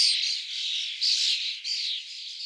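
A common starling sings a dense, unbroken stream of high, wheezy chattering and rasping notes, with two brief dips in loudness, and no other sounds or voices alongside it.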